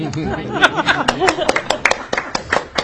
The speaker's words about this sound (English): Well, I feel like applauding. Let's stand and applaud her.